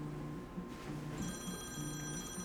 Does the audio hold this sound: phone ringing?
yes